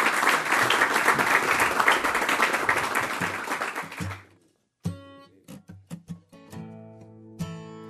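A crowd applauds steadily for about four seconds, the clapping thinning out and fading, followed by a few separate ringing musical notes played on their own.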